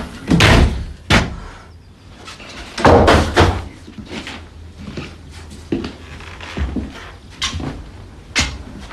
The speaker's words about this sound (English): Smashes her bag against the wall.